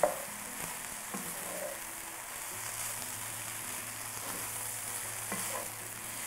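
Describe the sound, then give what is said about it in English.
Mushrooms and onions sizzle steadily in a hot pan as they cook down, a continuous crackling hiss with a few faint clinks of stirring, and no one speaking. “Okay, let's give this some time to cook down.”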